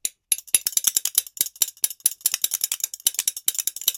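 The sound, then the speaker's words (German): Spoons held back to back are clacked against a thigh in a fast, steady stream of bright, sharp clicks, a rattling rhythm that keeps going without pause and with no voices over it. “Und dann kann man diese auf die Hand oder auf die Schenkel klopfen.”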